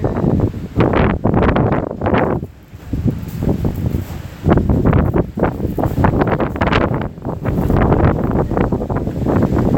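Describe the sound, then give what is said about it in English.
Strong outdoor wind at the Cornerstone Children's Ranch buffets the microphone in loud, rumbling gusts, with a brief lull partway through before the roaring bursts return and continue steadily. “Wow, it's windy. Yeah, really windy.”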